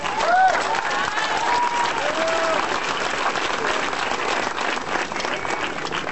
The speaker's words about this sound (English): Our next speaker is going to be Reverend Harriet Walden, Director of Mothers for Police Accountability. Give her applause, too.